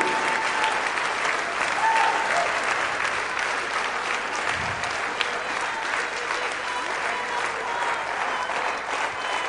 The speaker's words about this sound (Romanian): Come on, come on, come on. Să aplaudăm pe El. El merită toată slava.